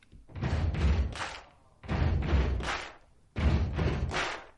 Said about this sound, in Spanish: Entonces, este sonido viene más bien tres aplausos. Ajá. Y patear, un pisotón, ¿no? El pisotón sobre el piso.